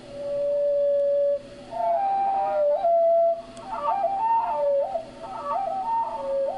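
Hermit thrush song slowed down to a quarter of its speed: a long, steady whistled tone, then slow, wavering notes that loop up and down in pitch, clear and fairly loud with no talking.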